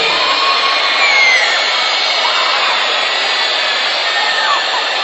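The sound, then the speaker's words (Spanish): A huge crowd at an assembly in Panama whistling all at once to acclaim Jesus Christ, without applause or shouts. A dense, loud, continuous wash of shrill overlapping whistles holds steady for several seconds, with a few individual pitches sliding above the mass. “ya sé que saben silbar, ok.”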